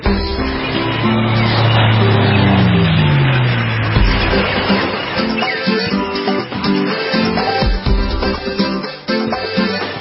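Loud, busy intro music for the beach and boating forecast segment of the Captain's America Third Watch radio show plays throughout, with a low gliding tone sweeping downward early on, then steady sustained notes and sharp percussive hits carrying on to the end. No one speaks.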